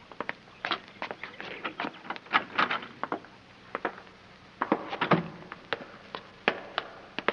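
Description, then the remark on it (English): A door to an all-stone cellar is worked open with a scatter of sharp clicks, rattles and dull knocks, irregular, a busier cluster of clatter midway, with no voices. “There's a door. That must be the cellar. We'll try it.”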